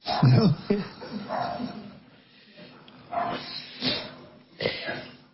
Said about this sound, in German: A little doggy concert. Die haben jetzt auch endlich mal was gefunden, das hat sich aufregen können. Ein kleines Hundekonzert. Finally they have found something to be upset about.